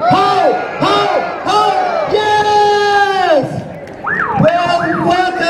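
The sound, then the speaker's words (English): A crowd shouts "ho, ho, ho" together in loud, rhythmic bursts to greet Santa Claus at a storybook Christmas parade, the voices rising and falling in unison, followed by a few more scattered, higher-pitched chanted calls. “One more time. Let me hear ho, ho, ho.”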